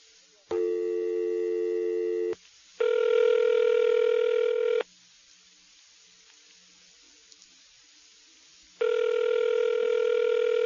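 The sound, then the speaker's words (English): An electronic telephone ring tone buzzes in steady two-second bursts, with a long silent gap before the next ring, heard down the line and left unanswered. No one speaks. “They don't want to answer the phone.”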